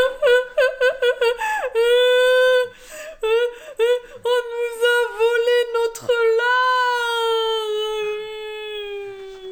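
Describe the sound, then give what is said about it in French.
A high-pitched voice imitates a mouse crying, starting with a rapid run of stuttering sobs, then drawn-out, wavering wails and whimpers, loud and with no other talk. “Elle fondit en larmes.”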